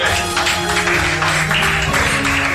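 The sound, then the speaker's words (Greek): A steady wash of applause during an announcement of measures, many hands clapping densely and evenly at a loud level throughout, with a faint low tonal hum running underneath and no voices. “Είδες, έπεσε και το χειροκρότημα πάνω στην ανακοίνωση των μέτρων.”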